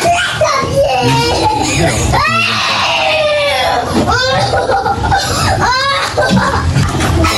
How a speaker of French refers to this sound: Alors, vous entendez les pleurs et les cris de la petite fille. Il y a une vidéo qui tourne sur les réseaux sociaux parce que c'est une maman, ce n'est pas la sienne. Hein. C'est une maman qui est au fond de la classe et qui filme ce qui se passe.